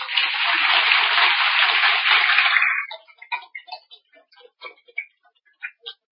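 A dense wash of applause from listeners at a Buddhist dharma talk lasts nearly three seconds, then thins out into scattered individual claps that trail off irregularly.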